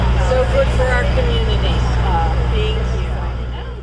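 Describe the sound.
The deep engine rumble of the Nuns and Friends Big Blue Bus drones steadily after its stop in Scranton, Pennsylvania, with indistinct voices chattering over it, and the sound gradually fades toward the end as it pulls away.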